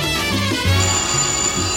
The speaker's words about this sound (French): Oui! Ah, le téléphone!